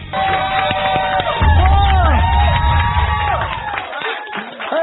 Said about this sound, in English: Welcome to On the Box. There's so many people clapping. Yeah. Welcome to On the Box. We have a live audience. Yeah. Isn't that great? They're very live.